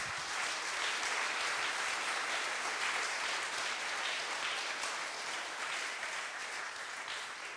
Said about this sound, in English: these are the guys and the invisible woman who you have to thank for this conference in just a little more ways than all the others who made this conference possible. So yeah, give a big round of applause for them.